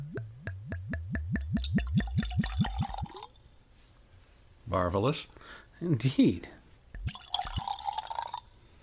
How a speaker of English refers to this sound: Yeah, like a Zinfandel, an old Zinfandel or something like that. Mm. I like it a lot. Yeah, it's a good looking bottle too. It is a good looking bottle. Shall I pour us up a couple?